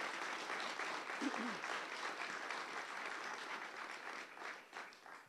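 A crowd applauds steadily for a woman who stood up to tell her story, dense clapping filling the space at an even level for several seconds before beginning to thin out toward the end.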